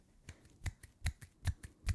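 A steady run of one-handed claps, sharp slapping clicks alternating louder and softer about five times a second, fairly quiet, with no voices.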